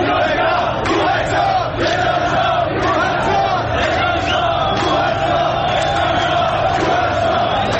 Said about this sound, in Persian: و یکی از شعارهای ساختار شکنانه‌ای که برای اولین بار در دی ماه گذشته به گوش رسیده بود.